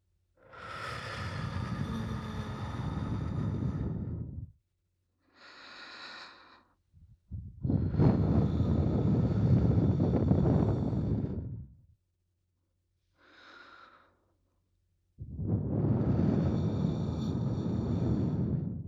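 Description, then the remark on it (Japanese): A woman's warm breath is blown slowly into the ears in three long, loud, airy exhales, each separated by a softer, shorter inhale, with no talking. “女性の温かい吐息、心地いいでしょう。”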